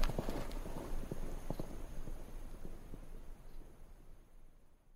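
Horse hooves clip-clop at a steady walking pace over soft background noise as a rider takes the horse, loaded with a chest, back to Cairo; the hoofbeats grow fainter as the horse moves away. No one speaks.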